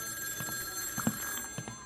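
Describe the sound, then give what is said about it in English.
A telephone bell rings with a steady metallic shimmer, broken by a few quick clattering pulses, heard fairly quietly with no one talking. “Ah, the phone again, of course.”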